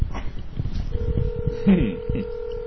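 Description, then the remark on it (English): A phone on speakerphone dialing out to call a friend, who does not answer: a steady electronic tone begins partway through and holds to the end, over low background chatter and a few faint bumps. “You want to call him? Sure. Yeah, call him. Yeah. Here we go. Speaker. Speakerphone.”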